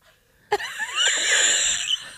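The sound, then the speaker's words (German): A very large fly buzzes loudly indoors, starting abruptly and droning for over a second with a rasping, wavering pitch that rises and dips before easing off. No one speaks. “Das hört sich an wie Flugzeug.”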